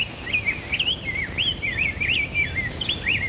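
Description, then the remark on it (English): A song sparrow sings a continuous run of quick, warbling chirps and trills, clear, over a steady low rumble of background noise, in a field recording made at dawn on May 18, 1929. “That day, Arthur and his team recorded a song sparrow, house wren, and rose-breasted grosbeak.”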